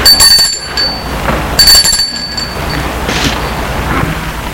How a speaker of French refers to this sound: Elle va sonner à la porte de la maison de l'homme en noir, du vieil homme qui habite au fond de la cour.